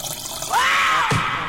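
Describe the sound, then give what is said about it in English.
Juice pours steadily into a glass for about half a second, the gurgling tone rising in pitch as it fills, then stops with a soft clunk. Fairly clear, with no voices. “Can I get some juice?”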